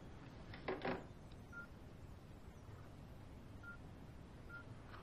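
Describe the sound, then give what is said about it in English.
Telephone dialing tones as a woman calls her husband: a few short, faint electronic beeps spaced unevenly over a steady background hiss, with a brief louder rustling burst near the start. “All right, I'll call him right now.”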